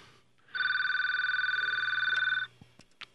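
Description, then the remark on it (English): A single loud burst of an electronic telephone ring during a talk show, a rapidly warbling tone lasting about two seconds, followed by a few faint clicks and handling noises as it is answered. “I had a problem there for a minute with the phone ringing.”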